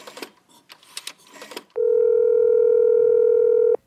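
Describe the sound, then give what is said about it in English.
A quick flurry of uneven clicks and tones from a number being dialed, then a loud, steady telephone tone hums without a break for about two seconds before stopping abruptly. “Give this number a call.”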